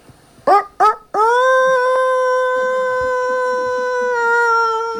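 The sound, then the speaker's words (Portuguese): A person imitates a rooster crowing: two short, sharp syllables followed by one long, loud, sustained call that holds a steady pitch for several seconds before trailing off. “Claro que no terceiro dia colocou o bico e o tucano, que na verdade era o galo, fez o quê?”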